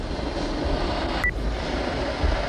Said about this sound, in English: Well, if you have a cat, you know what a hissing sound means.